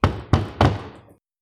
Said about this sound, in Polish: To co, pukamy? No chyba nie wchodzimy na pełnej kurwie, pukamy. Ja pukam.